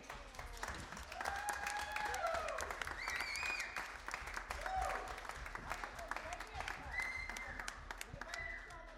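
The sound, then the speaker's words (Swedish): A crowd applauds steadily for several seconds for a sound engineer at a stage show, dense clapping mixed with scattered whoops and whistles, loud throughout with no break. “Han heter Andreas och jag tycker att han ska ha en applåd.”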